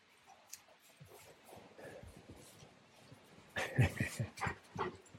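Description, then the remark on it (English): A Rottweiler dog whimpers, starting with faint, scattered whines and snuffles, then breaking into a louder cluster of whimpering cries during the last couple of seconds. “He's a Rottweiler, so I guess he was bred for being in the cold weather.”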